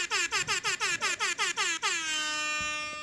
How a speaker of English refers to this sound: siren obviously went off.